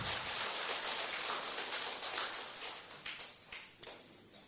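An audience claps to give thanks for a testimony, a dense, crackling burst of applause that holds steady for a few seconds, then thins out into a handful of scattered, separate claps before fading away.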